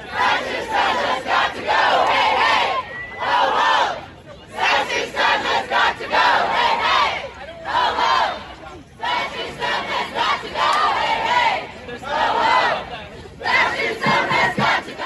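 A small group of protesters screams and chants in forceful, rhythmic bursts of many raised voices, separated by brief pauses, repeating for about fifteen seconds.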